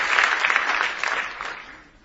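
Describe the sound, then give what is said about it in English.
An audience stands and claps in praise, a dense crackle of many hands that starts strong and gradually fades over about two seconds. “Now give the Lord another big hand clap of praise as you stand tonight”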